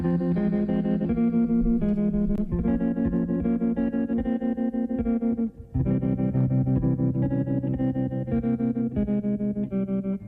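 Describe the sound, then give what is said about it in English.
Electric guitar drenched in effects plays sustained, shimmering chords with a wavering, echoing tone, loud and continuous apart from a brief drop midway, with no voices. “It was just an incredible guitar.”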